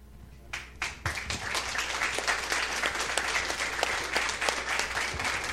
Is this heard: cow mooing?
no